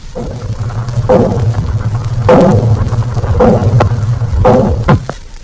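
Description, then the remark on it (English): Heavy metallic pounding on pipes by the crew aboard a submarine, four loud clanging blows spaced roughly a second apart, ringing out over a steady low mechanical hum. “Pounding on pipes by the crew.”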